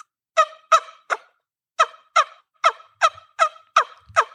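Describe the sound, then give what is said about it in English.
A wingbone hen turkey call, blown from the corner of the mouth, sounds a run of about ten short, raspy hen yelps in a steady, slightly uneven rhythm, fairly loud, with no talking. “This is a hen bone here.”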